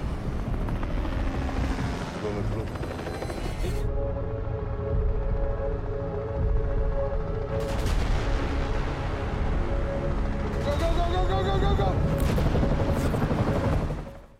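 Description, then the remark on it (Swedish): A helicopter roars steady, its dense rotor thump filling the mix alongside dramatic orchestral tones, with sharp bursts and booms cutting in near the end, in a trailer for a new Swedish series about a helicopter heist. “Jag undrar om vi kanske kan lägga in trailern här någonstans.”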